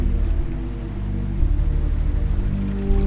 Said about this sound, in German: Und für kleine rhythmische Variationen hörst du jetzt noch so ein paar Tropfen. Und das Ganze sorgt jetzt für so ein tiefes, warmes Fundament, eben aus Wasserrauschen und aus einem Bass.